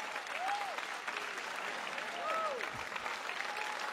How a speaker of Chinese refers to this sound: 来吧，大家给神一个掌声。